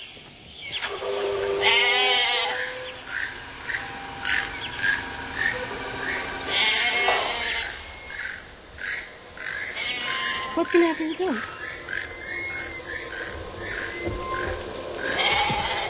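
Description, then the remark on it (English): A goat bleats with a wavering, quavering cry near the start, while people talk over a steady outdoor background hiss. “He's going to eat the goat?”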